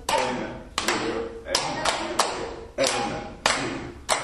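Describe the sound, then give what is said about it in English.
Hands clap in a steady rhythm, often in quick pairs, loud, over a low murmur of voices with reverberation, during a laughter exercise session with members on a concrete floor. “Hands clapping.”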